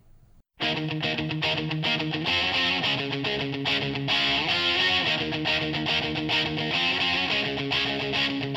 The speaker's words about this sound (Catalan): Començava a imparar el heavy metal i aquests eren uns autèntics mestres.